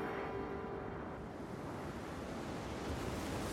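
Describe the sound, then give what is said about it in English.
Rough surf on a stormy ocean churns steadily with gusting wind, a dense, continuous roar heavy in the low end, loud, with no voices or distinct individual wave breaks. “Out on the stormy ocean, the James Caird is in constant danger of capsizing.”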